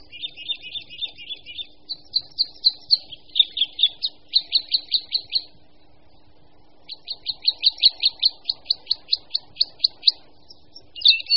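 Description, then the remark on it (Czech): Crossbill calls: sharp, high chirps repeated in quick rhythmic runs, dropping out briefly midway before a longer, steady series resumes over a faint low hum. “Ačkoliv se křivky zdržují většinou vysoko v korunách smrků, jsou případy, kdy se s křivkami můžeme střetnout tak říkajíc přímo za okny domu.”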